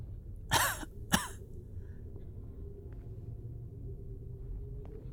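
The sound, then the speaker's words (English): Two harsh coughs in quick succession near the start, the first longer and the second sharp and brief, then only a low, steady rumble fills the rest. “And that cough was genuine.”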